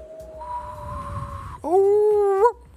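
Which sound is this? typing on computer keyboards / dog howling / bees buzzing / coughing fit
dog howling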